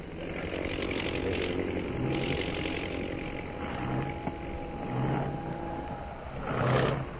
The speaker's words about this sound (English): That plane in center of formation. Oh, yeah. Is dropping out of line and circling for a landing.